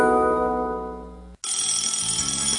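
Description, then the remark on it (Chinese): A telephone rings loudly, first a steady electronic tone, then after a brief break a brighter, buzzier ring that continues to the end. No one speaks. “嘿啦，电话你讲”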